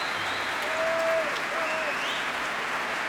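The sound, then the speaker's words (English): A large Proms concert crowd of Antonio Marquez Company fans applauds steadily with a dense, continuous roar of clapping. Scattered whistles and cheers rise above it, including a particularly big cheer for the company's founder, Antonio Marquez. The sound holds loud and even throughout. “And quite a lot of them sitting near me as well, as you can hear from the great cheers and roars of approval.”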